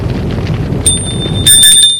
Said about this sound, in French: La sonnerie du portail a retenti.